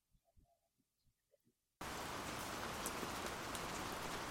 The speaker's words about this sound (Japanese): 恨めしそうに雨を見つめていた。